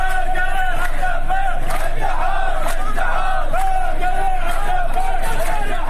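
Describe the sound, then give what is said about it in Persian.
A large crowd of Haft Tappeh sugarcane workers, protesting for more than a month with marches and rallies in the city of Shush, chants and shouts together in a steady, loud, continuous roar, voices rising and falling in rhythmic waves of collective protest for the whole stretch. “کارگران نیشکر هفت‌تپه بیش از یک ماه است که احتساب کرده و در این مدت در شهر شوش راهپیمایی و تجمع کردند.”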